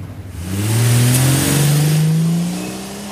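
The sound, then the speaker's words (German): A Buick car engine revs up loudly, its pitch climbing steadily as the car accelerates away, then easing off near the end; no one speaks. “Habt ihr auf das Kennzeichen des Buick geachtet, Kollegen?”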